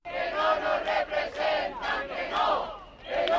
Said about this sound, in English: It wasn't the warmest of welcomes. Up to 1,000 protesters crowded outside a European Union building in downtown Madrid, screaming at Angela Merkel to go home.